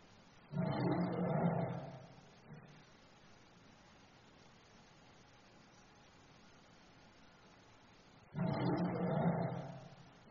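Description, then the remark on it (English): A lion roars twice, each deep, rumbling roar lasting about two seconds, separated by a long stretch of quiet background hiss. Both roars sound loud, with no talking. “And now you have the roar of a lion.”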